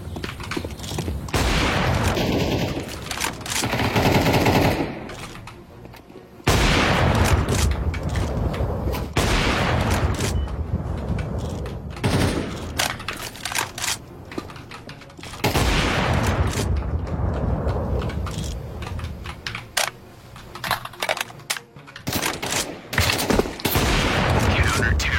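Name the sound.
video game gunfire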